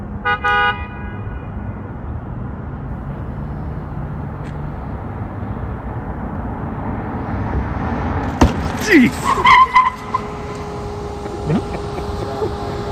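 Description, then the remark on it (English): A steady rumble of a car driving in a daytime test, then a sudden sharp thud as the car strikes a toddler-sized, toddler-shaped mannequin, followed by brief squealing tones and a voice exclaiming. “The sound of a toddler mannequin getting absolutely ethered like a bag of wet flying hands.”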